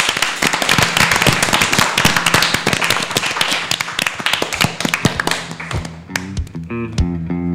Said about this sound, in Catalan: Un aplaudiment per tots aquests bons moments.